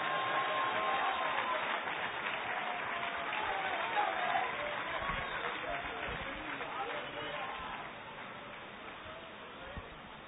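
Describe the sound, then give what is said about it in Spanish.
An audience applauds for Christ in the evening, many hands clapping in a dense, sustained wash at a fairly loud level, with a few cheers mixed in. “Denle un aplauso a Cristo en esta noche.”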